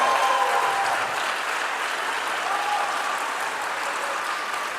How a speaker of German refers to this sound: Jetzt euer Applaus für Flo und den engen Kanadier.